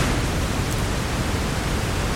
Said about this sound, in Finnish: Mutta otetaan nyt, tässä on näyte, miltä se kuulostaa tuommoinen valkoinen kohina.